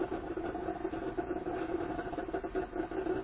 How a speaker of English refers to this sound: My coffee maker is doing its thing this morning.